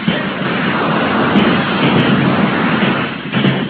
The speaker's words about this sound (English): A volley in that direction, men.